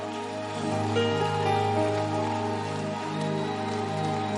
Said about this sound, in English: Put your hands together for the Lord, everybody. What a camp. Keep clapping your hands. It's not good to stop clapping. It's just right that you keep clapping your hands. Keep clapping.